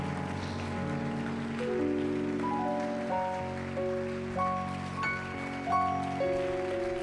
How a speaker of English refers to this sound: And one more time, would you clap your hands and give God some praise?